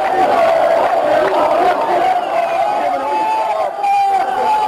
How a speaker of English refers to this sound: This amateur video footage claims to show large crowds marching in the city of Hama.